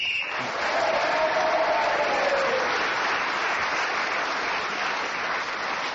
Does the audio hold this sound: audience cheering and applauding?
yes